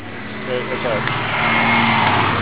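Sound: bus driving past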